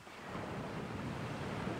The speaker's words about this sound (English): The beach is wide and long. Hear the waves crashing to the shore.